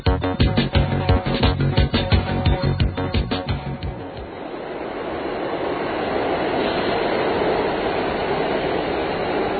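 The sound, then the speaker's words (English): A subway train arriving on another track at a subway station rumbles and clatters in with rapid rhythmic clacks for a few seconds, then gives way to a steady roaring whoosh as it fills the station, loud, with no voices. “When a train shows up on every track but yours, that always happens to me.”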